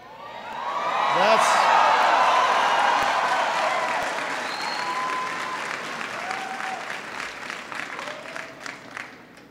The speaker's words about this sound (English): That's what's called an applause line in the business.